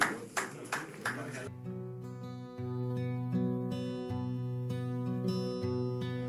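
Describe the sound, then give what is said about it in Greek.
A short burst of applause from a small group, lasting only a second or so, quickly giving way to a steady, tuneful musical passage that carries on to the end. “Χειροκρότημα, χειροκρότημα.”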